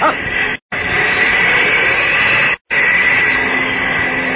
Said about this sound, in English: Wait. I think I hear a plane now. Over and out. Yes, that does sound like a plane. Above me and coming this way.